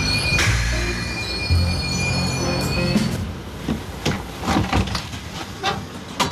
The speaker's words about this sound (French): dans ce calme où le bruit blanc du train berce la centaine de passagers.